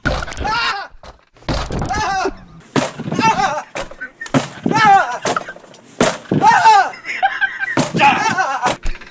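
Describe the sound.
Loud, heavy bangs of an office door being kicked in recur every second or so, sharp thuds cutting through voices and animated vocal sounds.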